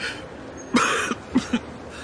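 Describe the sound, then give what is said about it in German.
A loud cough starts the sequence, then a brief pause before two or three shorter, rougher coughs follow in quick succession, with no talking. “Auch ein Hustenbonbon?”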